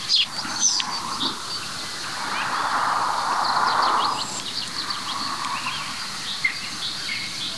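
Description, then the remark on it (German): Faint calls of two courting black woodpeckers, soft repeated 'tüt' notes rising out of a hissing outdoor background, with thin higher bird chirps scattered around them. “Da hört ihr sie noch. Dieses Tüt. Zwei balzende Schwarzspechte.”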